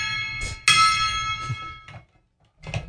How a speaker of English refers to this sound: Where's my gong?